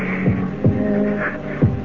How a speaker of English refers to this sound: It's not her heart that's beating. It's mine. It's my heart. My heart.